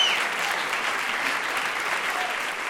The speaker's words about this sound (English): This is an applause-crazy crowd.